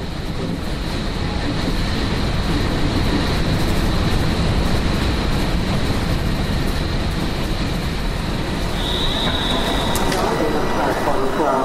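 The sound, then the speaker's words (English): A train runs steadily along the rails, a loud, continuous rumble with a thin high whine throughout and a short metallic squeal near the end, with muffled voices in the background. “Please stand behind the yellow line. Smart attendants is located at the front of the train.”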